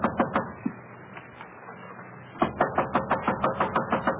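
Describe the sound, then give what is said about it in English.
In a hotel corridor, a man holding a briefcase knocks impatiently on a room door: a few scattered knocks, a pause, then a fast, insistent run of about a dozen sharp raps in steady rhythm, fairly loud. “A man with a briefcase in his hand has been knocking impatiently at one of the room doors.”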